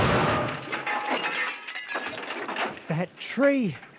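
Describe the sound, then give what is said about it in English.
A car slams into a tree in a park with a loud crash of crunching metal and breaking glass that scatters into rattling debris, followed by a couple of short, wavering vocal sounds. “I fell to the ground behind a tree, and the car smashed into it.”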